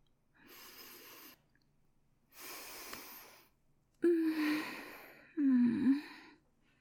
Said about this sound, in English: I was just breathing.